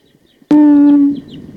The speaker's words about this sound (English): So recording the wild bird again.